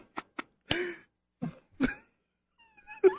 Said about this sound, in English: Let me clear my throat.